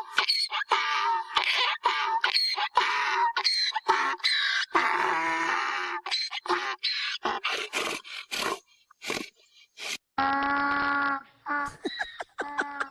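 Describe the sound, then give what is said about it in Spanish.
A donkey brays loudly in a long series of harsh, rasping heehaw bursts, followed by a steadier, more tonal groaning bray toward the end, with no talking. “Oye, chicos, eso sí es un burro.”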